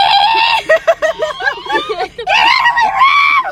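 A high-pitched, shrill scream rises and wavers in loud bursts, breaking into choppy yelps midway before a final sustained shriek.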